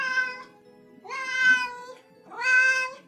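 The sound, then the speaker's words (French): Three drawn-out, wailing meows in quick succession from cats up on the gutters, each rising and strained, loud, with a low hum between calls and no talking. “Tous les chats grimpèrent sur les gouttières pour le féliciter par un miaulage désespéré.”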